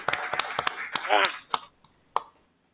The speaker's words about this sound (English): Have a big round of applause for Jack Ingram, 5-time NASCAR champ.